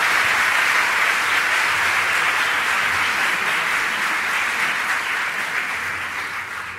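An audience in Cartagena gives a welcoming round of applause for Ricardo Piglia, a dense wash of many hands clapping at once, loud and sustained before tapering slightly at the end. No one speaks.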